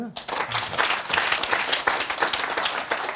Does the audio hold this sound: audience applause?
yes